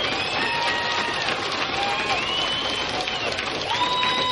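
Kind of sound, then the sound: crowd, crowd cheering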